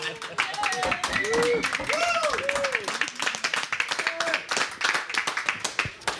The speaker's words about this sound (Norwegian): Liten applaus for det.